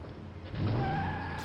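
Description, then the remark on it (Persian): A car engine roars up loudly and pulls away, escaping from the Kraang in the Kraang's own car, with rising tonal whines suggesting tires squealing as it accelerates, continuous throughout. “فرار از دست کرانگا با ماشین خودشون.”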